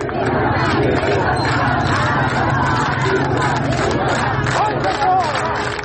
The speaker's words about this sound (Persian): صدای دیگر اما فریادهای مردم شرکت کننده در مراسم تدفین این دختر جوان بود.